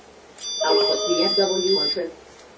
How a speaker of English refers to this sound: Okay, so we heard the alarm. And we're hearing the speech support saying SWR. It says output VSWR trip. Output VSWR trip. And that keeps talking just to let you know.